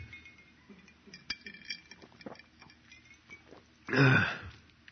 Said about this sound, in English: And what I'm going to have to do here is chug along this entire glass of water. So cheers.